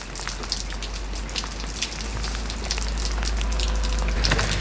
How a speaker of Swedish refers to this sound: Vilket ösregn.